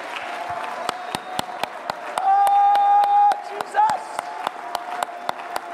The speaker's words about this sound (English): Somebody show God, "I need you, Jesus." This ain't just a hand clap. This is a declaration on my behalf of just how much I need you, of just how much I'm depending on.